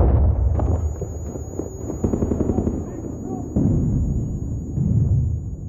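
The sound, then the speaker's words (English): Loud, chaotic combat noise: rapid bursts of gunfire crackle over heavy, booming grenade explosions, continuous for several seconds, with faint muffled shouting mixed into the din, as Mexican Marines throw grenades into rooms during a gunfight with Chapo Guzman's bodyguards in a house. “The Marines were pulling pins on grenades and throwing them into the other rooms, and the explosions were deafening.”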